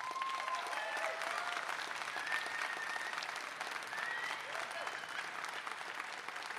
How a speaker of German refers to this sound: Jetzt bitte euer Applaus